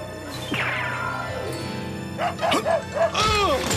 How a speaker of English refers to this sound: Off! Get this dog off me! Sorry, boy. He got away! I want this mutt out of here. Take him someplace where no one can see him.